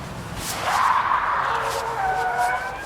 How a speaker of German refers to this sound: Siehst du das Auto da, das mit den quietschenden Reifen um die Kurve fährt? Oh, jetzt hat es angehalten und jemand steigt aus.